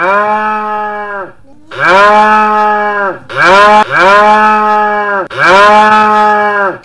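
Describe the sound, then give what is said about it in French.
Cows moo loudly in a barn, a run of about five long, drawn-out calls following one another with only brief pauses between them, with no talking. “Il arrive à l'étable.”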